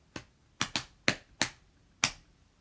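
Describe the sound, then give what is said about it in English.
A person imitates a mother drumming her fingers on her thighs after a meal: six quick, sharp taps with an uneven rhythm, including a close pair, then a longer pause before the last tap. No one speaks. “My mother, when we ate, after we'd eaten a meal, would kind of sit there and sort of do a little drum on her thighs. It would go sort of...”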